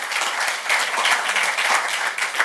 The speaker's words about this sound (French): Je pense qu'on pourrait leur donner une main d'appréciation, parce que je sais qu'ils travaillent fort, même pendant les fêtes, prennent du temps. Est-ce qu'on peut les remercier par appréciation, applaudissements? Merci.